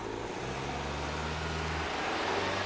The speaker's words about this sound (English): He watches Salvador, who eases himself into the back seat of a taxi. The car drives uphill.